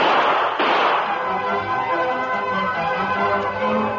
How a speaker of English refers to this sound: Across the street, Sheriff Fraser and Tonto entered the office from the cell room as the sound of gunfire was heard outside. Hey, Tonto, those were shots.